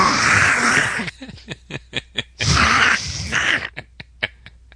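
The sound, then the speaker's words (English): A voice mimics the congested sinus snorting of a sick tournament player: two long, harsh, wet snorts, each trailed by a string of short sniffly bursts, with no words spoken. “But it had an old sinus thing going on.”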